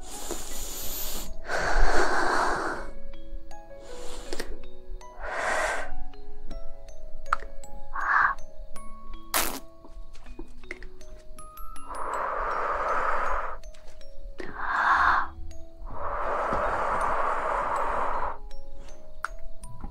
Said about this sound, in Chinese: 我想听听男人的呼吸。我想听听老公沉重的喘息声。